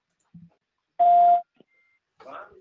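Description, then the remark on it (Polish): A single steady electronic beep signalling an incoming phone call sounds for about half a second, loud and clear over a brief noisy burst, with short faint murmurs of voice before and after. “Mamy telefon. Poprosimy w takim razie o linię numer 1.”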